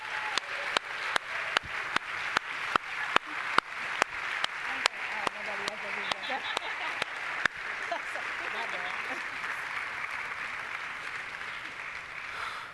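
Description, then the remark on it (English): A church audience applauds to thank a group of women, starting with loud, evenly spaced rhythmic claps for several seconds, then dissolving into a steady, dense wash of clapping that continues to the end. “I would like us to just give these ladies a round of applause and thank them.”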